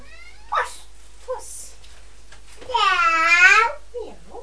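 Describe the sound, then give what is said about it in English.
A young child's voice imitates the meow of Purdy, a cat, in one drawn-out, rising-and-falling cry, with short soft babbles before and after it. “What does Purdy say? Meow. Meow.”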